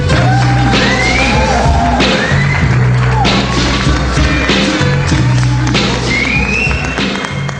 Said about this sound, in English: And without further ado, I would like you all to give a warm Laughway House round of applause to my nigga, Hennessy Youngman.